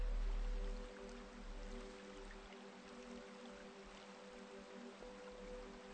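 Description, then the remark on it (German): A steady, continuous rush of flowing water from a brook, with a faint low hum underneath and no voices. “So wie mich der Bach trägt, so tragen mich auch die Schallwellen der Musik.”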